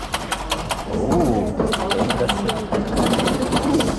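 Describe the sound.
A youth group plays a coin-operated pinball machine called Superstar 2.0, brightly painted with Luther scenes and part of a Moritz Götze art exhibition in the Michaeliskirche in Erfurt. It clatters with rapid, irregular clicks and knocks from the flippers and ball over a steady mechanical whir. Faint voices murmur underneath.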